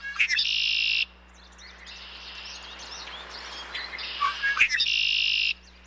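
red-winged blackbird calls

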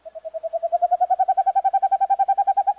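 owl call

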